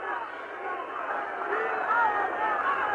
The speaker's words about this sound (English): Many in the crowd can see them. A great roar of ANC goes up from the crowd. Everybody's now rushing up to the prison gate.